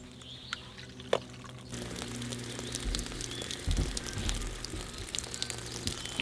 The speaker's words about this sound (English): Okay, the way this system is supposed to work, it's connected, you turn the gas on, and then you just come over here. Turn the shower on.